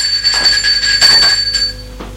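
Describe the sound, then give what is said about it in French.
A doorbell rings one morning at the door of Nicolas's home, with bright, sustained metallic tones in several quick repeated strikes over about two seconds, fairly loud, with no voices. “Un matin, on a sonné à la porte de Nicolas.”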